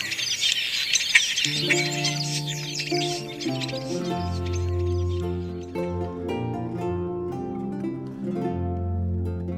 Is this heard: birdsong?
yes